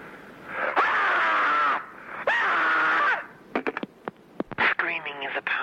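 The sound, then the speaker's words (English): A person screams twice, two long, loud, strained cries, followed by a string of short sharp yelps and a final rough, wavering scream, with no talking. “Meanwhile, to add to your screamscape...”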